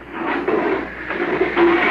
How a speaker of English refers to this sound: All set. Close the inner door. Decompress.